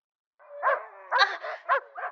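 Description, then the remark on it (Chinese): Several wild dogs bark in a quick, uneven run of about five loud barks, some overlapping, with no one talking. “这些都是你的野狗朋友吗？”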